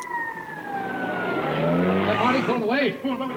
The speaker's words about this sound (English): It's cops. Hey, a patrol car just pulled up.